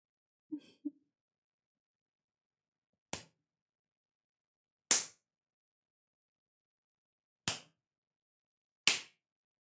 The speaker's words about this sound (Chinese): 那我就做得更过分一点了。不知道鞭子打在这里会是什么样的效果呢？